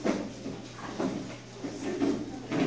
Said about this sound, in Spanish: voy a quitar esta silla.